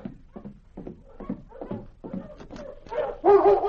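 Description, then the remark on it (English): A collie named Lady, one dog of a team, gives a quick run of short, rhythmic barks and yips that grow more insistent, ending in a louder, high-pitched whining whimper. “So you recognize the collie?”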